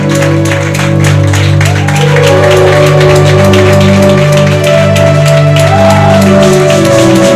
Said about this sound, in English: And so with Jesus' joy, jumping, shouting, clapping. I want you to help me to receive. No, you are not clapping enough.